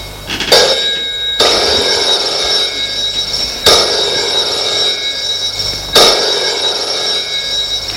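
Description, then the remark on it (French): An old-style telephone bell rings loudly, sounding in repeated bursts with brief gaps between them, with no voices present. “Une semaine plus tard, c'est elle qui lui téléphone.”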